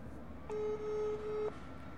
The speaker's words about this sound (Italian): Segreteria telefonica.